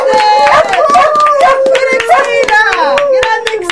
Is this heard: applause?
yes